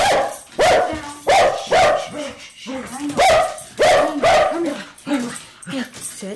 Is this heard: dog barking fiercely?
yes